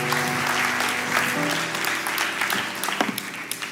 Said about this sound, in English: So would you give them a great cheer and welcome from Cromer Church. Cheers, thank you.